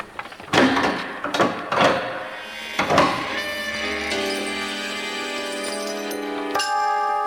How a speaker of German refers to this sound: Die Tür fiel hinter den Kindern zu und damit waren sie gefangen.